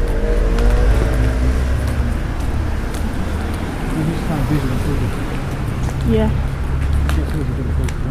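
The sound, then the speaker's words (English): A car drives past with a steady low engine rumble and road noise that swells and fades over several seconds, with some voices faintly underneath. “There's a car coming.”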